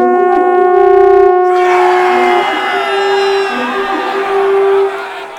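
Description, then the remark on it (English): At dawn at the walls of Jericho, loud, sustained brass blasts of an army of trumpets ring out, and a roaring crowd of victorious cheering, whooping shouts swells in beneath them and carries on for several seconds. “Then suddenly, the melody was broken with an army of trumpets and victorious shouts.”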